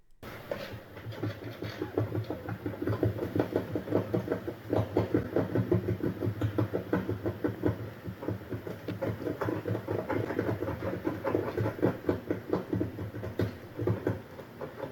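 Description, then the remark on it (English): Porcupines chewing on an old wooden cabin: a steady, dense stream of rapid gnawing and scraping crunches, fairly loud and unbroken for the whole stretch, with no voices. “The notes on that one on Xenocanto, it said that it was porcupine or porcupines chewing on an old wooden cabin.”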